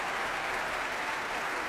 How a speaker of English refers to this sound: Applause there for the trumpeters.